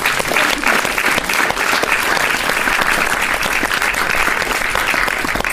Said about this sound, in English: Everybody who's here today has come and volunteered their time to share their experiences and insights with you. So please can we have a round of applause for that?